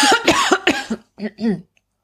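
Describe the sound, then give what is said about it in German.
A person coughs in a rapid, harsh burst, then gives two rougher, strained coughs after a short pause, choking on a biscuit; the fit sounds loud and spluttering before falling silent. “oh Gott, jetzt ersticke ich an einem Keks”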